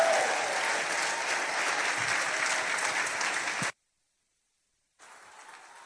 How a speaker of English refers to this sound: Can you rise over there? Let's put our hands together for her. Amen.